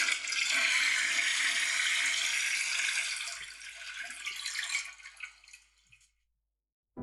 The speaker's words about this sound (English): All right, let me just flush for a second.